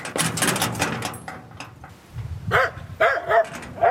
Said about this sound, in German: Es wird später niedergebrannt und das Grundstück, auf dem es stand, bewachen nun Hunde, die zwar laut bellen, aber nicht gefährlich wirken.